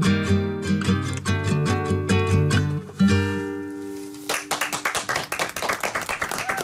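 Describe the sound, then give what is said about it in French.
A song sung with guitar and sustained instrumental notes draws to a close, then the staff in the studio control room break into brisk, scattered clapping that carries on steadily to the end. “Ah, puis tout le monde en régie applaudit, c'est super.”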